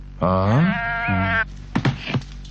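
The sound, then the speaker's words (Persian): A lost sheep, found alone in the northern pasture, bleats one long, wavering call, followed by a couple of short, rougher sounds, with no one speaking. “این گوسفند چرا اینجا تنها مونده؟ این گوسفند گم شده”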